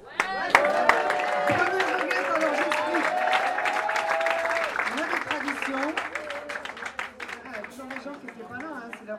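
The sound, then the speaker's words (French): Loud, dense applause from an audience at a goguette singing session, many hands clapping in a rapid continuous patter, with voices calling and chattering underneath; the clapping thins slightly toward the end. “Lorsque quelqu'un chante une goguette pour la première fois, on l'applaudit deux fois plus fort.”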